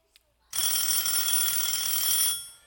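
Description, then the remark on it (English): A phone built into a shoe rings with a bright, steady electronic trill that holds for about two seconds at a strong level, then cuts off, preceded by a brief faint tick. “There is a phone built into that shoe.”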